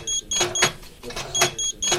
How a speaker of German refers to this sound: Das Piepsen an den Türen von Verwaltung, Universität oder Forschungszentrum ist vielen ein vertrauter Ton.